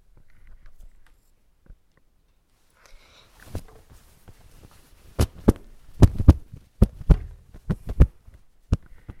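A quick, excited heartbeat of frightened youths thumps in paired beats, starting faint and swelling louder over the last few seconds, with no voices around it.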